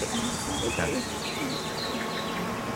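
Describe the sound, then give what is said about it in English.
A honeybee stuck in honey buzzes steadily, its droning hum wavering in pitch as it moves, with no speech over it. “Oh, another bee that got stuck in the honey there.”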